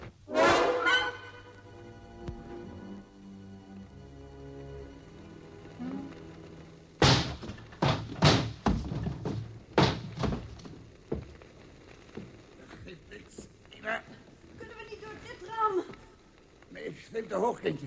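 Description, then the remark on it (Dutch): Heavy thuds of someone banging against a locked door to force it open, a rapid cluster of five or six blows, then scattered knocks, with voices and strained vocal sounds before and after. “We moeten die deur open krijgen.”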